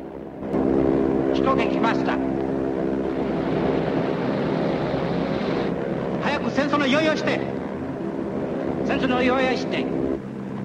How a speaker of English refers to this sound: As the three Japanese planes head into the clouds, Woody sends his plane soaring upwards.